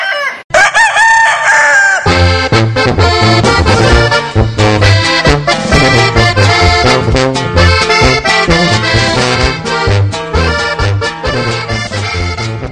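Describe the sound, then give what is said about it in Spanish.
A single loud rooster crow rings out for a second or two at the start, then upbeat music with a steady beat takes over for the rest. It opens the radio programme Mi Gallo, about fighting birds. “Mi gallo en los mejores eventos.”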